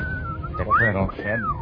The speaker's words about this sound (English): They're dropping whistles on us again, so.